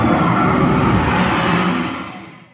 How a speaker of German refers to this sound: Und das absolute Highlight, der Drache auf dem Dach der Bank spuckt mit lautem Grollen Feuer über die Köpfe der Besucher hinweg.